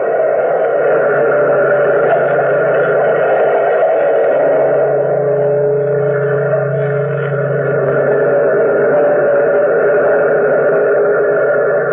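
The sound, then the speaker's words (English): A large bell, tolled by the bellkeeper of The Weird Circle, rings with a deep resonant hum, steady and loud throughout, its overlapping strikes blending into one sustained metallic drone with no voices present. “Toll the bell!”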